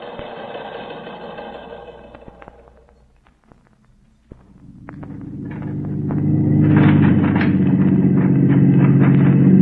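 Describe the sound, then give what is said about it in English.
A four-wheel drive car borrowed from the police motor pool rumbles, dips briefly, then surges into a loud, steady roar with clattering knocks and rattles, as if bouncing over a rough back trail toward a camp. “Anything they've got with a four-wheel drive.”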